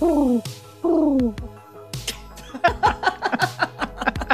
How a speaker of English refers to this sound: Is that your pigeon?